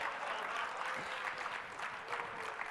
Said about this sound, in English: All right, now we took forever on that one. I'm glad I got some good applause out of it, so.